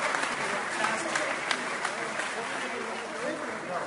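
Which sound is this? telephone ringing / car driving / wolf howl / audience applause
audience applause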